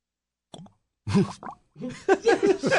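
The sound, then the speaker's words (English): Bubbles gurgle through a bottle neck in a quick series of hollow, plopping glugs, with short bursts and pitch that bends upward, fairly loud and with no talking over them. “Yeah, this way you can hear the bubbles.”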